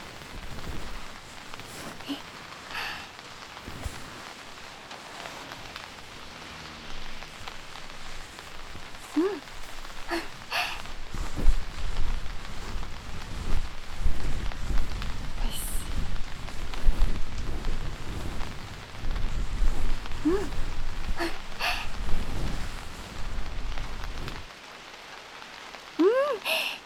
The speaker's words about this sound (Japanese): でも雨だって強くなるし、それにまあ、ほらどんどん寒くなってきてる。